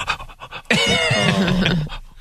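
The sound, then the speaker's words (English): Quick, rhythmic dog panting breaths, fairly loud, give way to a long strained whining tone that holds for about a second before trailing off. “The dog's just like...”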